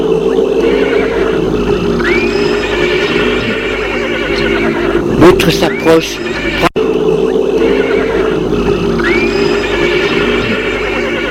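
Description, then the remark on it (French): A horse rears and whinnies loudly as something rises up in front of it, a shrill rising neigh with a burst of commotion around five seconds in, while a man narrates over a steady background bed. “Tout à coup, dresse devant sa monture, ce qui fait renverser de port son cheval.”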